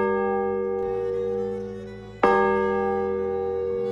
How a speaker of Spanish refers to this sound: En la concatedral se conservan tres campanas anteriores a la Guerra Civil, dos de 1904, son las de los cuartos y las horas.